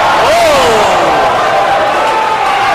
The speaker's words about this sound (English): Luck is getting a very nice reaction from the crowd. And a crowd letting Rockstar Ziggles have it.